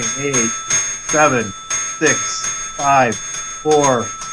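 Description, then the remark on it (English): A bright bell rings continuously and rapidly for about 10 seconds, a sustained metallic ringing heard beneath loud, rhythmic bursts of voices counting down from 9 to 1 over it. “I want you to ring the bell for like 10 seconds. Just ring the bell. Just keep ringing it for 10 seconds.”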